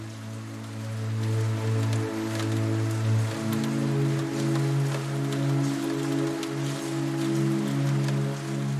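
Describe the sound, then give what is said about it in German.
Steady rain patters against a large window pane overlooking a rainy street, a dense field of tiny taps layered over a low, sustained hum that drones beneath the whole stretch without pause. “Der Regen prasselt gegen die Scheibe.”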